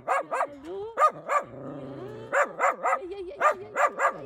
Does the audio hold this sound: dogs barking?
yes